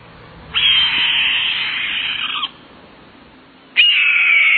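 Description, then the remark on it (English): Two long, hoarse, descending screams of a red-tailed hawk, loud, the first lasting about two seconds and the second cut off at the end, with quiet background in between. “Once red tails find a successful hunting area, they return often.”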